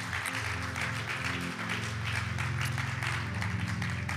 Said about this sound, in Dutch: Laten we God een applaus geven.